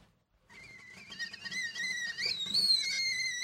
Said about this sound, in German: Wie ein zweiter Wecker jaulte das Pfeifen der Teekanne am Dienstagmorgen um 6.45 Uhr durch die Küche der 30-jährigen Sozialpädagogin Frieda.